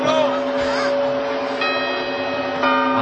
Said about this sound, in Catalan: Que van a tocar los cuartos. Un momento.